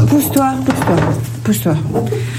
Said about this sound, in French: Regarde. Regarde quoi ? Je vais te montrer comment je fais la vaisselle.